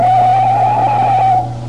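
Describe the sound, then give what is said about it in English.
A loud, sustained screech of car tires skidding to avoid a truck wavers in pitch for over a second, then cuts off abruptly, with a low engine rumble underneath and no voices. “Look out, the truck!”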